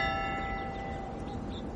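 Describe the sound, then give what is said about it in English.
A bell rings with a steady, sustained metallic tone that slowly fades, heard at moderate volume over a low, rumbling background noise, with no one talking. “The bell is late again.”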